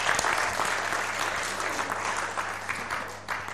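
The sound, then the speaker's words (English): A steady burst of applause from an audience after a Bible reading from Nehemiah, many hands clapping in a dense, continuous patter that holds fairly loud throughout, with no voices standing out. “That does a clap, that does, doesn't it?”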